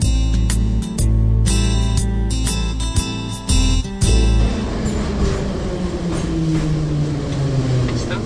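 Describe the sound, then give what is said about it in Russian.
A Moscow metro train rumbles and clatters with a steady electric hum, then its motor whine slides steadily downward as the train brakes to a stop at Prospekt Mira station. “Проспект Мира. Переход на кольцевую линию. Уважаемые пассажиры, при выходе из поезда не забывайте свои вещи.”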